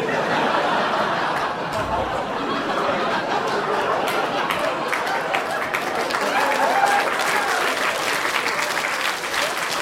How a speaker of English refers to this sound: Really, that gets the smattering of applause, does it?